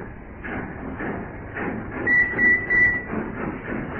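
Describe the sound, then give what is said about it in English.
A junkyard train rumbles along the railway tracks with a steady, rhythmic clatter, and a thin metallic squeal rises briefly in the middle. No one speaks. “That perishing junkyard train's coming back.”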